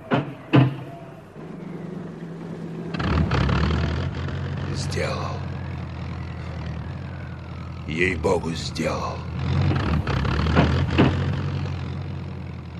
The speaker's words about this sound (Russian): Начинай. Запускай мотор.